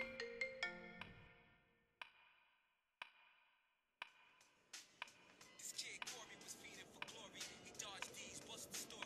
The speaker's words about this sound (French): J'entendis le téléphone de ma mère sonner et celle-ci alla donc le chercher pour répondre à l'appel.